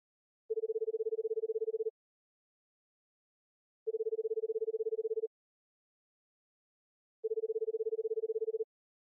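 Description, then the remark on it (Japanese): A telephone line tone sounds three times as a call is placed to someone's father, each steady beep lasting over a second and separated by evenly spaced silent gaps, clear with no voices; the call goes unanswered. “そうだ、お父様に電話してみましょう。”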